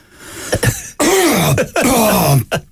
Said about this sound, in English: What we want you to do is cough like Stevie.